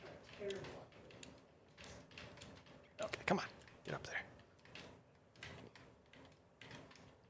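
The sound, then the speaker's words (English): Rapid, irregular button clicks tap away, some sharp and a few louder bursts in the middle, with faint murmuring voices underneath. “It's funny, all you hear is like buttons clicking or so.”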